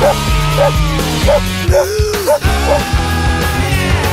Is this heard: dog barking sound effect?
yes